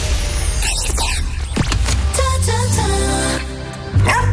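A dog barks and yelps several times in irregular bursts, with a steady low hum running underneath and no one talking.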